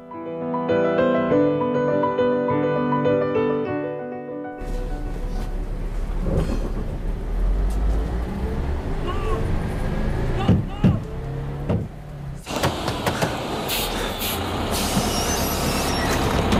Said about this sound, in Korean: 그 짧은 시간 동안 시애틀에 다녀오려고 장거리 버스를 타고 가는 애나. 버스가 중간 기착지에 잠시 머물렀다가 다시 출발하려고 하는데 한 남자가 급히 뛰어오더니 차를 멈춰 세웁니다.